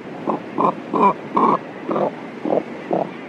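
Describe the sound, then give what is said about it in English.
A cormorant gives a series of seven hoarse, guttural grunts, each short and croaking, repeated at a fairly steady pace with brief pauses between, with no other sounds. “Let's listen again to the limited vocal range of the cormorant, whose syrinx is controlled by only one set of muscles.”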